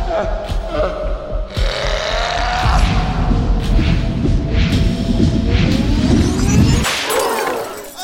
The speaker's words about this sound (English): My tray with licorice rope. Hey, I did it. Did you hear that whip crack? Yee-haw!